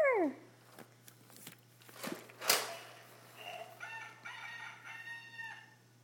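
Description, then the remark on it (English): A small child's voice imitates a rooster's crow with a short, high, falling squeal, then a longer wavering crow-like call. It is fairly quiet, with a few thumps and low hum. “doing what the rooster says.”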